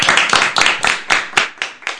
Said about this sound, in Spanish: Y estoy muy orgulloso por vosotros. Un aplauso muy fuerte.